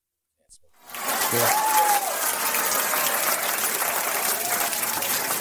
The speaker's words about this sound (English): I like the claps. Nice hand claps over there. Yeah, you know I like this.